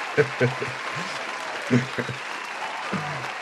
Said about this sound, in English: insert applause here now.